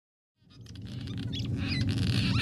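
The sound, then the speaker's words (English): Busy chattering calls of cliff swallows, many short chirps and squeaks layered together, rising out of silence over a steady low rumble like traffic. “So cliff swallows are these birds who often build their mud nests on the underside of highway overpasses and bridges.”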